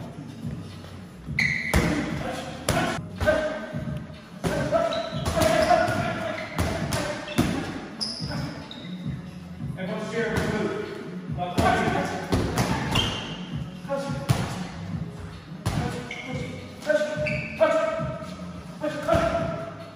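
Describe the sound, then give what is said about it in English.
Punches thud repeatedly against a pad in quick, uneven, solid bursts, with brief pauses between combinations and faint voices and gym noise in the background. “Throw those punches properly. You're throwing to miss.”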